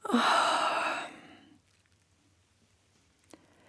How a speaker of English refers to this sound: Coming back, have a good stretch, then flex your muscles. And yawn.